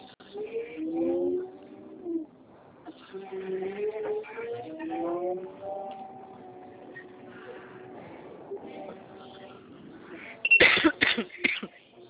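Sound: coughing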